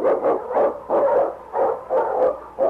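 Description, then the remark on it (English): King, an Eskimo sled lead dog, barks excitedly through storm and snow in a quick, steady series of about eight sharp, loud woofs, with no voices or other sounds around it. “Underdog King, swiftest and strongest of Eskimo lead dogs, blazes the trail through storm and snow for Sergeant Preston as he meets the Challenge of the Yukon.”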